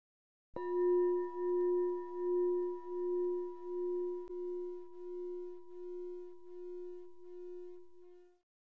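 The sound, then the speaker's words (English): A crystal is struck once to signal the start of a meditation session and rings out with a clear, steady mid-pitched tone and bright overtones, pulsing gently as it slowly fades over several seconds. A faint tap sounds midway; no voices. “I will chime the crystal to signal the start of the session, then chime it every time we move to a new meditative exercise.”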